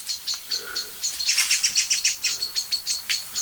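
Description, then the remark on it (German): Many songbirds, including blackbirds and song thrushes, scold with alarm calls, twitching their tails and wings excitedly: a rapid series of sharp, high chattering notes that builds into a steady, insistent rhythm. The calls are moderately loud, with no voices. “Und ihr hört es dir selber. Schimpfen, schimpfen, schimpfen.”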